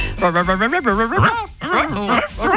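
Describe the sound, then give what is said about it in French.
People mimic dogs with their voices, trading a run of yips, whiny whimpers and short barking sounds back and forth, fairly loud, with no real words spoken. “Moi, j'aimerais bien avoir la conversation des chiens du quartier.”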